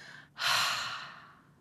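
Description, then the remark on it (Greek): A deep breath drawn in, a brief pause, then a long, airy exhale with a deep sigh that swells quickly and fades slowly. The breathing is clear, with no talking. “Πάρε μια βαθιά εισπνοή και εξέπνευσε με ένα βαθύ αναστεναγμό.”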